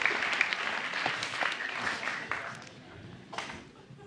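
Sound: audience clapping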